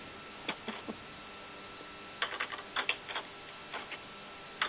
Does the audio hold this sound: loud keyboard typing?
yes